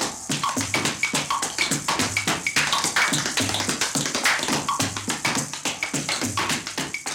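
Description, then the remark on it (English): Rapid, crisp tap-dance steps clatter in a steady, syncopated rhythm, with bright metallic clicks and occasional heavier heel strikes, all fairly loud and continuous with no voices. “And did I mention the tiger growling and the tap dancer?”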